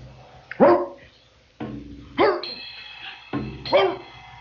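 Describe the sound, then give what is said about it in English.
A dog gives three rough, hoarse barks a second or so apart, each sounding like a throat-clearing cough, fairly loud with no one talking. “But everybody thinks I'm barking. They don't understand that I'm only trying to clear my throat.”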